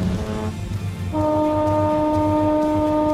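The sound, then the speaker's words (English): The horn of the cruise ship Azura blasts in, a loud, steady low tone with strong harmonics that holds unbroken for about two seconds, sounding in reply after a brief earlier horn tone, over a rumbling low background. “Azura doing the there comes Azura's own reply.”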